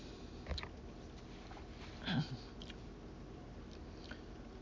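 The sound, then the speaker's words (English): A single short slurping sip of hot tea, fairly quiet, followed by faint mouth clicks against a low, steady background hiss; no one speaks. “I got me some tea here. Take a little sip here.”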